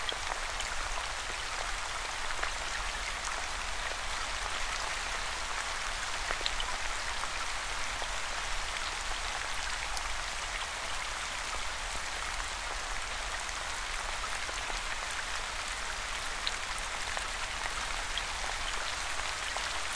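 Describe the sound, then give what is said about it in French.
Steady rain falls continuously, a dense hiss of countless drops pattering evenly on a surface, unbroken with no voices. “Continuez de vous laisser bercer par le son de la pluie, en portant votre attention à présent sur votre respiration.”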